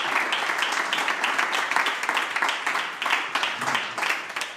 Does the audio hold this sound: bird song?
no